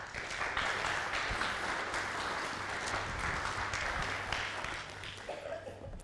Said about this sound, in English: I don't know if they're clapping for you or for me